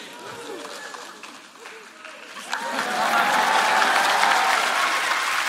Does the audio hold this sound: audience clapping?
yes